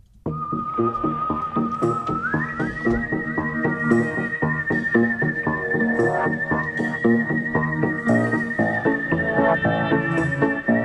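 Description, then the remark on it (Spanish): A bright whistled melody, the jingle of the New Directors section, holds long, steady notes, stepping up in pitch early on, over a busy rhythmic musical backing that runs the full length at a constant, fairly loud level. “Pero antes, para despedir y para cerrar este bloque en el que hemos estado hablando del Donostia Cinema al Día, vamos a despedirnos con el silbidito de la sección de nuevos directores.”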